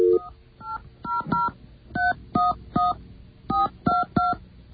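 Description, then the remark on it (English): A series of about eleven short dual-tone beeps from a telephone keypad as a phone number from a pamphlet is dialed to call Sprint Spectrum, dialed at an uneven pace in small clusters, clear and fairly loud with no talking. “Oh, there is a phone number. Let's give them a call.”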